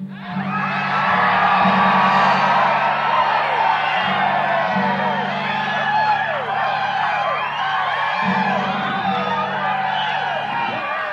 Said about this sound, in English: Okay, now let me say another thing. Every one of you yell just as loud as you want to.